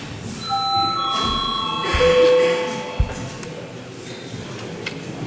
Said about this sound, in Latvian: Lūdzu zvanu, lūdzu deputātu reģistrācijas režīmu.